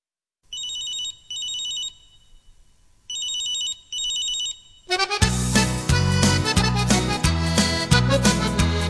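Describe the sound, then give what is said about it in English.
A mobile phone ringtone trills in four bright, warbling bursts, two quick pairs separated by a short gap, before a full band with drums kicks in loudly and plays on. “She says, hang on now till I answer this. This mobile phone, it is a curse.”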